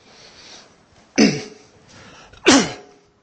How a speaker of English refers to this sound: By the way, don't worry if I start coughing. I had a cold in January, and it's left me with a cough, but it's not terminal, so I shall still be here at the end of the service.